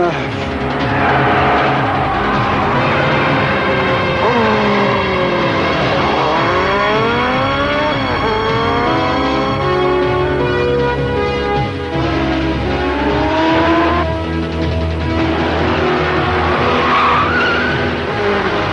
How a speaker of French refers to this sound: Son moteur a l'air gonflé à bloc. J'ai vu ça, mais ne pousse pas trop la moto.